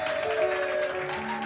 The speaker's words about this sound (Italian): Applausi, applausi, che facciamoci sentire.